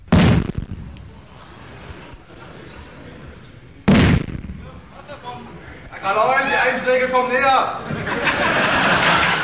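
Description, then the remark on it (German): Two loud ship cannon blasts about four seconds apart during a chemistry show with explosions and smoke, each fading into a rumbling roll, followed by a burst of raised voices and crowd noise. “In einer säurehaltigen Flüssigkeit wurden feindliche Schiffe versenkt und auch die Schiffskanone kam zum Einsatz. Es rauchte, leuchtete, stank und knallte gewaltig.”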